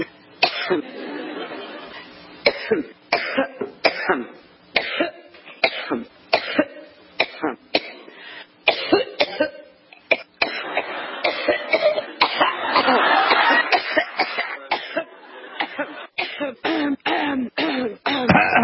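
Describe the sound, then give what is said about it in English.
A compilation of Hillary Clinton's coughing attacks over the years: repeated bursts of harsh coughing, one fit after another with abrupt cuts between them, loud, with some throat clearing and murmuring voices in the background. “It keeps going on for a while of her over the years having coughing attacks.”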